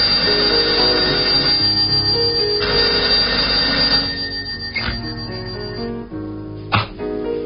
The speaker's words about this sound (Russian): На седьмой день, вернее, на седьмую ночь, когда он крепко спал, в комнате раздался телефонный звонок.